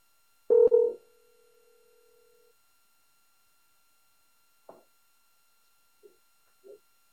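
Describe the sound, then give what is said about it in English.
A loud clatter gives way to a steady, low telephone dial tone lasting about two seconds as someone places a phone call, followed after a pause by a few short, faint electronic blips. No one speaks. “Just one more phone call.”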